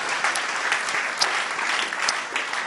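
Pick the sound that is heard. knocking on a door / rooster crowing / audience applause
audience applause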